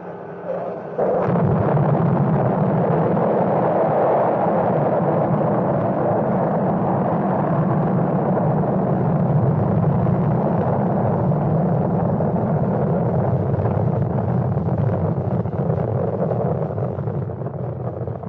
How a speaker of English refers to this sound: The Atlas ignites, pushing the spacecraft through the thicker atmosphere.